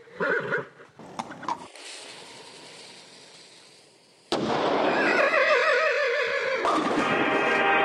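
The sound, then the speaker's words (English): A loud horse whinny bursts in midway and carries on with a shaky, wavering pitch, as a horse lights a cannon's fuse and climbs inside. Before it come a few short knocks and a steady hiss. No one speaks. “The horse aims its cannon, lights its fuse, and climbs inside.”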